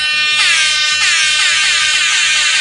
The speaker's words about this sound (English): Air horn.